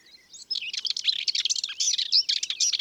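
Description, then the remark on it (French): Two common whitethroats sing a rapid, scratchy, hurried warble while chasing each other inside a thick hedge around a meadow at 9 a.m. on 5 May, the phrases tumbling continuously for a few seconds, with their wingbeats audible and no voices present. “5 mai, 9h du matin, nous sommes dans une prairie entourée de grosses haies et devant nous, dans l'épaisseur de la haie, c'est la fauvette grisette.”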